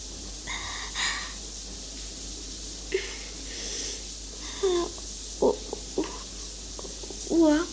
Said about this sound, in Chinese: 我声音怎么了？喘气，像现在这样吗？ 当然了，因为我憋得快要死了。我只是在做仰卧起坐，所以就有一些这种声音啊，